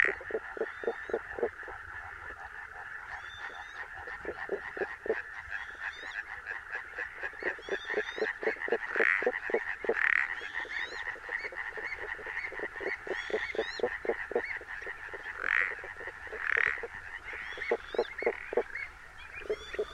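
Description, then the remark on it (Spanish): A spadefoot toad calls from underwater, a muffled run of soft, low pulses repeating steadily throughout, set against a busier, brighter chorus of other calling amphibians. “Este otro, más débil y sordo, corresponde al sapo de espuelas y es solo la parte audible de un sonido emitido bajo el agua.”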